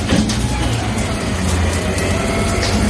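A heavy garbage truck rumbles with a steady, loud low engine drone, broken by faint clanks and hisses, in the early hours of the morning, with no voices over it.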